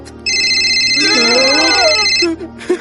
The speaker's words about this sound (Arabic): إنه الهاتف.